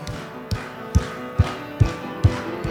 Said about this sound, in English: Let's clap together. All right, let's hear your clapping louder.